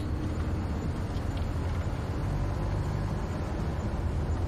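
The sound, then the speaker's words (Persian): A steady low engine rumble and road noise from inside a moving car, continuous and fairly loud, with no talking. “من تو ماشینم.”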